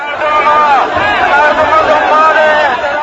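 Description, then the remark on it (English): A large protest crowd, addressed by Mr. Mousavi and waving green flags and banners, roars with cheering and shouted slogans against the government, defying a ban on demonstrations; many voices overlap into a loud, steady din without letting up. “Mr. Mousavi addressed the cheering crowd, waving green flags and banners and shouting slogans against the government.”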